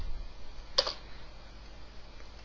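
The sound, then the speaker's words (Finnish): A quick double click of a computer mouse, two sharp little taps close together, fairly soft against a faint steady background hum, with silence for the rest. “Mä tuplaklikkaan tätä.”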